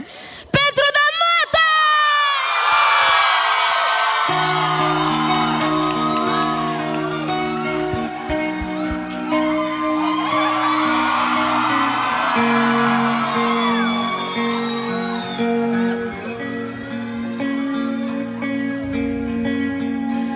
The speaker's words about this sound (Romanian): Nu vă mai țin cu introduceri, dar o să vreau aplauze foarte mari pentru...